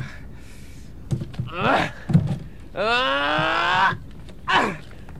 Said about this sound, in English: I wonder what's in these crates. Now, a crowbar.